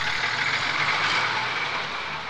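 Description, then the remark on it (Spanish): A bus's engine rumbles with a broad, hissing roar and low drone, easing slightly in loudness toward the end as it comes to a stop at a village bus station. No one speaks. “Cuando el autobús se detuvo en la estación”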